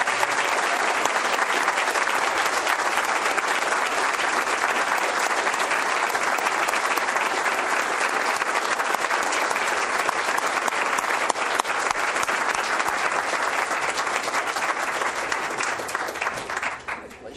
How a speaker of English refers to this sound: And now that warm round of applause, please.